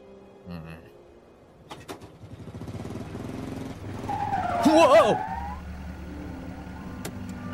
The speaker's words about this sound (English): Whoa! I'm sorry, man. You okay? Yeah, I'm fine. Good brakes you got there.